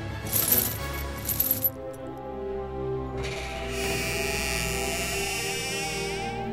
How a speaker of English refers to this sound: Then, as he sat before the fire, he heard the sound of chains.